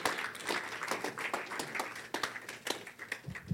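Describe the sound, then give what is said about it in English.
A church audience claps for the Lord Jesus during a sermon on baptism, a dense, steady burst of applause, many overlapping hand claps forming a continuous crackling patter at moderate loudness, with no voices standing out. “Clap for the Lord Jesus.”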